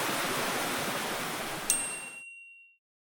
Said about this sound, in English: Birds chirped above, and the sound of flowing water grew louder. Suddenly, we were greeted by the roaring falls.